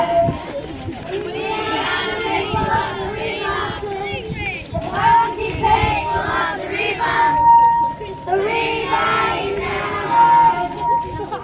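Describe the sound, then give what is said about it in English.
A large crowd at a rally shouts and chants in loud, overlapping waves, with high voices, including screaming children's, rising in repeated bursts and a few sustained tones cutting through the dense roar. “It was the kids that were screaming. It was the kids that were holding the signs.”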